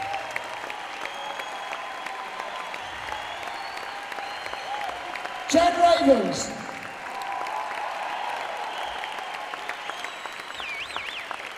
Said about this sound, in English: Applause.